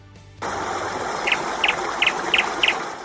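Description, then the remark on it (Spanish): A small bird chirps five times in quick, evenly spaced bursts, each a bright, high double note, over a steady rushing hiss that begins abruptly after a brief quiet moment. “Pues este pajarico nos recuerda que puedes evitar esperas”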